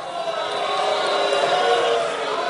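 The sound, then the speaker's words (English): An audience boos in a steady, dense wash of many voices, holding a low, sustained drone at a fairly loud, even level for a couple of seconds with no single voice standing out. “Are you booing?”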